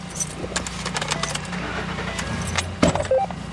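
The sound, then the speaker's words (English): A Cass County Sheriff's Department captain climbs into his truck to drive towards sites where protesters and police have clashed. Keys jingle and rattle, a door thuds near the end, and a low engine rumble hums underneath throughout. “of the Cass County Sheriff's Department hops in his truck and drives towards several sites where protesters and police have clashed.”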